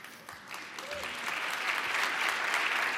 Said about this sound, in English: I hope we're clapping for the grit and fortitude, not the snow. Just want to be clear.